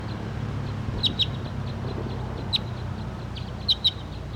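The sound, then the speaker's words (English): A wild bird gives short, high-pitched chirping calls in scattered pairs and singles over a steady low rumbling background, with no one speaking; bird 5-7 also calls alongside it. Recorded on filter 3. “And the wild bird and 5-7 are calling on the side right here, but this is 301 pointing at.”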